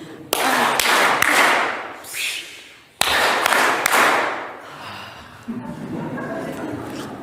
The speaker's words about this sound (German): Der funktioniert so, wir klatschen 3-mal in die Hände, dann öffnen wir die Dose, dann klatschen wir wieder 3-mal in die Hände und dann nehmen wir einen Schluck Cola.